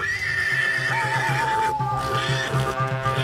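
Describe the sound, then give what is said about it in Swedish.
A horse whinnies loudly and shrilly while a steady, rhythmic clatter of hooves runs beneath, the animal sounding as if it is galloping off. “Ja, absolut, jag galopperar iväg här.”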